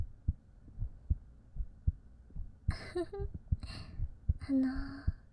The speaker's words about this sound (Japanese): 鼓動音早め？早いか。